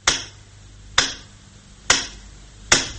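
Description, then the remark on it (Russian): A radio metronome ticks slowly and steadily at 50-60 beats per minute, signalling calm in a front-line city: four sharp, crisp clicks about a second apart, each fading quickly over a faint low hum, with no voices. “50-60 ударов в минуту. Все спокойно. Насколько может быть спокойно во фронтовом городе.”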